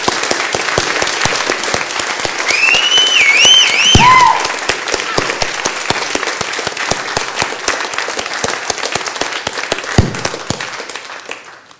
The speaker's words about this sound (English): We have one reason to clap and to applaud in church. Our Lord Jesus Christ. Amen. And when we applaud Jesus, it shouldn't be anything half-hearted. Amen? Amen. He is risen. He is risen indeed. How about we applaud?